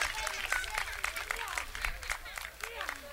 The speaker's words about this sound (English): Let's hear a big hand of applause